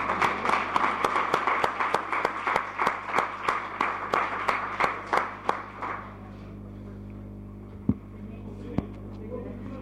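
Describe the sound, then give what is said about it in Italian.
An audience claps together in a steady, rhythmic beat for about six seconds, applauding a pupil's mother called up in place of her absent son, then the applause dies away, leaving a low hum and a couple of stray claps. “Applauso alla mamma.”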